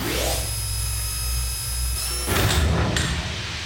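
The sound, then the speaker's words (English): A motorized door slides shut with a steady mechanical whir that rises at the start, then finishes with a loud, heavy clunk as it seals, with no voices. “Okay, I'm gonna close the door.”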